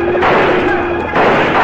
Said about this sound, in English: Before Bob Kincaid can rally his men, Slagle and his outlaw crew sweep down with guns blazing, pouring a hail of lead at the surprised cowboys.